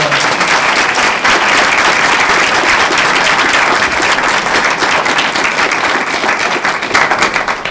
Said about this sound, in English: I can now confide in you that one of the reasons I am not seeking office is that all four of these people are a hell of a lot smarter and better. Please give another round of applause.